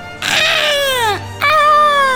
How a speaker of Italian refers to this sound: È un terribile pterodattilo. Che cos'è uno pterodattilo? Diciamo, un uccello che assomiglia a un dinosauro.